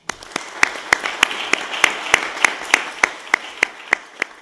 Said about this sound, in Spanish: A todos ustedes muchísimas gracias, y quiero que se den hoy aquí un enorme aplauso, porque yo se los doy de corazón.